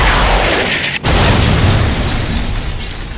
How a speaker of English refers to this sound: RPG 7, ready to fire.